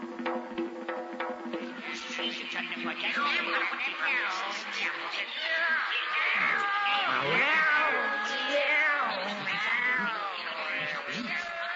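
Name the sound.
cats meowing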